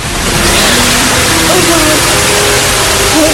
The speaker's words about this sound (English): The bathroom basin, the lavatory and the bath are all gushing out brown water.